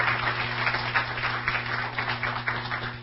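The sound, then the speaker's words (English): A crowd applauds steadily for a few seconds, a dense patter of many hands clapping at once over a low, constant hum in the room. “Let's just clap.”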